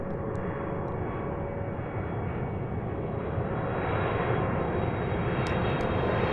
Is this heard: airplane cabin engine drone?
yes